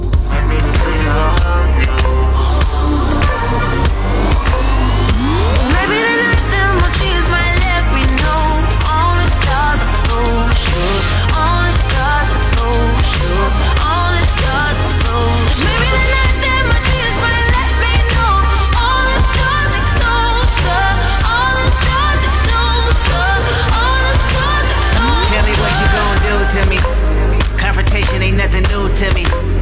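A loud new pop single, released that day, plays continuously for about thirty seconds, with heavy bass, a steady driving pulse and dense layered melodic lines sliding over the top.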